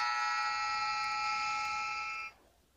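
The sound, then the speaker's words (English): A clothes dryer's end-of-cycle buzzer sounds one steady, loud electronic tone with bright harmonics, holding for a couple of seconds before cutting off abruptly into quiet. “I think that was a dryer going off.”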